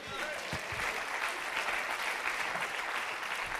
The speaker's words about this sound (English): Come on, let's keep clapping. Let's keep clapping.